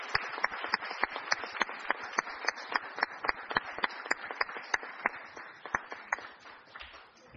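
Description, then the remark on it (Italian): Steady applause from a group at a town council meeting, welcoming a newly appointed councillor, a dense wash of clapping with one sharp, evenly spaced clap standing out on top, keeping going for several seconds before thinning slightly at the end. “Direi che possiamo fare un applauso.”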